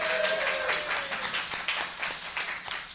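A room full of live listeners applauding at a live show of a band at Pride 48 Las Vegas, a dense wash of many hands clapping at once, steady and fairly loud throughout with scattered sharper claps standing out.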